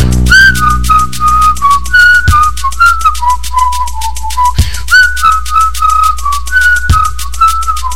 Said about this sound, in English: We're coming up on my favorite part. This is where they do the whistling thing.